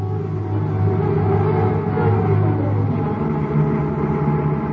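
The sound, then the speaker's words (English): A car engine hums steadily as the vehicle drives out past Lincoln Park, turning southeast for the highway, a continuous low rumble with a faint higher whine, even throughout with no voices. “We took a taxi to the garage where I picked up my car, and we headed out past Lincoln Park, turning southeast for the highway.”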